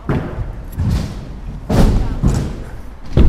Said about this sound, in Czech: Rány, které se ozývají ze skateparku, dělají čím dál populárnější koloběžky.